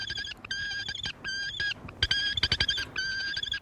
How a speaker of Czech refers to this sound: Ne. To je nějaký jiný pták než sup. Poslouchejte.